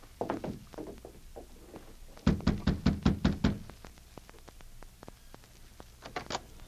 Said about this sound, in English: Hey, you knock on the door.